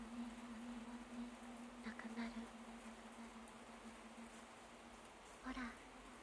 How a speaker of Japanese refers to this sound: 耳を澄ませて。 雨の音。